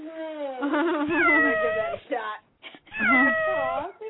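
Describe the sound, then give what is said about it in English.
A person imitates a cat with two drawn-out, wavering meows, the first long and sliding and the second shorter, voiced loudly with a brief pause between them. “That sounds like a little meow.”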